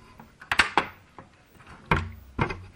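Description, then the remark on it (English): A CD drawer, opened with an eject button beside a memory card slot, slides open and shut with sharp plastic clunks, two quick knocks followed after a pause by another pair, with faint mechanical rattling between them and no voices. “Opens the drawer, which I'll discuss where the CD door is in a minute.”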